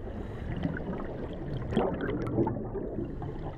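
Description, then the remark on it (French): A scuba diver breathing underwater from an air tank, with a muffled, rumbling rush of air and bursts of gurgling bubbles that swell midway through. The sound is steady, with no voices. “Le son préféré, c'est quand je suis dans l'eau avec la bouteille. Ça fait j'aime bien ce son-là, quand je respire, quand j'entends les bulles.”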